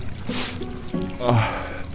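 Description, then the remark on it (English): Water splashes and sloshes in a wash basin as someone washes their face, in a few uneven bursts, with a brief trickle and a soft voiced sound mixed in, fairly loud throughout. “It's just water.”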